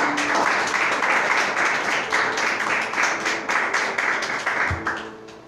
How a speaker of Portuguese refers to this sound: Si tú concordas, aplauda a Él. Aplauda, Señor Jesús.